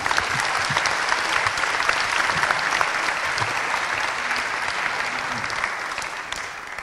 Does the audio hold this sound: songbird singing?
no